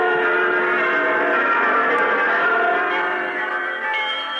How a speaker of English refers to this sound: The little bells are ringing too. The proud, forlorn little schoolhouse bells which do double and triple duty on our lonely prairies and in the close-held hills and swamps of our south, calling the children to school, the grown-ups to their meetings